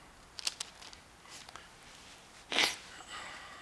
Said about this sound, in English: So verse number 2, let me try and stay someplace. Keep turning the page.